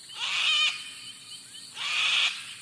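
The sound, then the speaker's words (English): Two harsh, raspy screeches from a sulfur-crested cockatoo, loud, each lasting about half a second with a short pause between them. “Imagine you're about to shake hands, but with a sulfur-crested cockatoo.”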